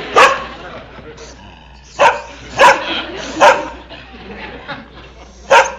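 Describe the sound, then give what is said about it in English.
A dog named Tiger barks repeatedly, about six sharp, loud barks spaced irregularly over several seconds, with quieter yips and low murmuring sounds in between. “See, Tiger doesn't like it either. Well, there is an intelligent animal.”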